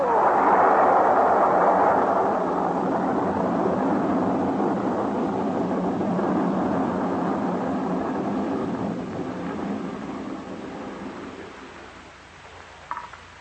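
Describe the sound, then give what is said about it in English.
A laboratory building explodes after a couple of dull thuds from inside, erupting into a long, loud, roaring rumble that stays heavy for several seconds before gradually dying away, with a faint clatter near the end. “But suddenly, from inside the building came a couple of dull thuds. And then the whole thing began to bulge at the seams, began to”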